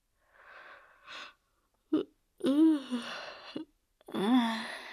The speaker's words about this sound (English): Yawning? Really? I'm yawning, but I can't sleep?